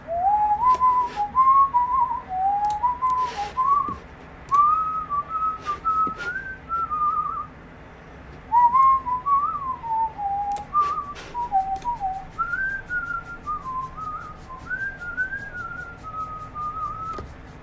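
A person whistles a wandering melody alone, the clear tone sliding up and down in phrases with short breaths between, steady and close, with occasional faint clicks and rustles in the background.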